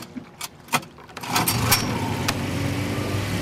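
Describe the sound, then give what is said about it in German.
A few sharp clicks and knocks, then a small motorboat engine starts up and settles into a steady, low, rumbling chug as the boat takes a round through a harbour, continuing to the end. “Daneben liegt sein Boot, mit dem er, so oft es geht, durch den Hafen tuckert.”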